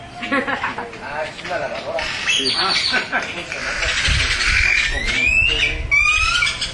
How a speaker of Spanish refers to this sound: Pero esos pájaros, esos son los ¿qué? ¿Cómo se llaman? Los tordos, ¿verdad? Sí, son muy imitadores esos pájaros.